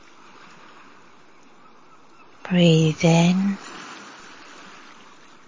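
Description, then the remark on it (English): A steady, soft wash of ocean waves fills the whole clip without distinct breaks, and a calm voice speaks briefly over it partway through during a guided breathing relaxation. “Listen to the waves.”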